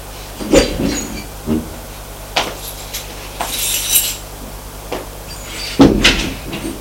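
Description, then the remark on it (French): An apartment door being opened: a few sharp clunks and rattles of handle and frame, spaced irregularly, over a steady low electrical hum, with no one speaking. “Ça lui paraît bizarre d'ouvrir la porte de son appartement.”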